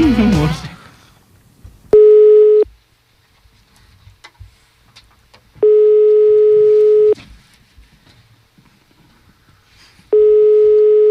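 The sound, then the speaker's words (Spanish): An outgoing prank phone call to a Movistar line rings with no answer: a loud, steady ringback tone sounds three times at even intervals, separated by stretches of quiet background rustling and faint murmurs. “Parece que no coge.”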